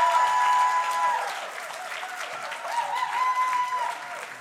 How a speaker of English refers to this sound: So clap for me like I'm getting up, and then I'm going to do this, and we're going to close it out, and then we'll bring up some more poets.